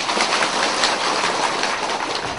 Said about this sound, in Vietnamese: Rồi, cảm ơn quý Phật tử. Hát dở nhờ vỗ tay. Cho tràng pháo tay nữa nghe thử.